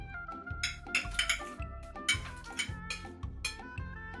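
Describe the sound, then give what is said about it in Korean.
Twig spoons and chopsticks are set down for a pretend meal with fallen-leaf plates and dirt food, making a series of light clinks and taps in an uneven rhythm, while soft tonal music plays steadily underneath. “낙엽으로 접시 만들고, 흙으로 음식 만들어, 나뭇가지 수저 놓으니.”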